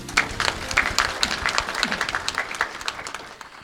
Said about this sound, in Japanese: 皆様大きな拍手でお迎えください。